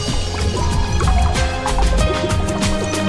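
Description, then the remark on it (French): Virgin olive oil poured into water in a Teflon pot on a stove burner at full flame gives a steady, fairly loud liquid gurgle with bubbling and small splashes, a busy continuous sloshing with no voices. “La vierge huile d'olive que je verse dans l'eau, choc de liquide, petit rond psychédélique évoquant l'île de Wight.”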